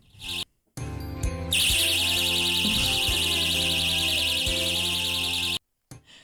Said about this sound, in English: You should be able to hear what's about to happen is these safety pants. If someone tries to undo your pants without your permission, an alarm will go off.